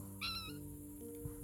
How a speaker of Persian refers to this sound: نگاه کنید همه اردک های وحشی هست. چه خوب از دم نمی ترسن. این خانومم هی جیک جیک میکنه.